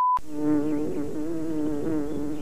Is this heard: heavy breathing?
no